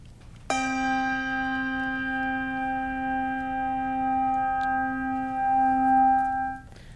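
A single lower-to-middle bass handbell is struck once and rings out with a rich, sustained tone, its steady harmonics humming for about six seconds before the sound is abruptly damped. No voices are heard.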